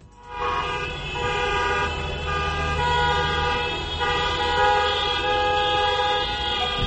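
Many car horns blare together in a loud, sustained chorus as drivers honk in protest near government buildings in Ukraine, overlapping tones holding steady for several seconds with the low rumble of traffic underneath and no voices.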